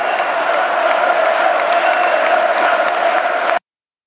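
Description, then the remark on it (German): A large crowd cheers and chants "Höcke, Höcke" in unison, a loud, steady roar of many voices with a sustained vocal tone running through it, cutting off abruptly after about three and a half seconds. “Also mir war das wichtig, am Ende noch diese Jubelarie zu hören und auch diese Höcke-Höcke-Rufe.”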